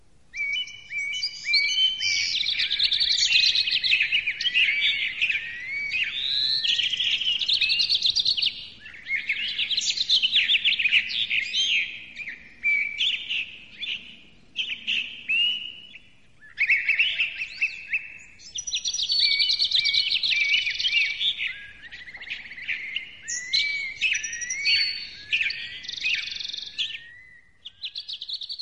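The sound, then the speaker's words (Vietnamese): A dense chorus of many birds chirping and twittering nonstop in the morning, bright and busy, in overlapping bursts with a few brief lulls, fairly loud, no voices. “Sáng hôm sau tôi bị lũ chim nhiều chưa từng có đánh thức.”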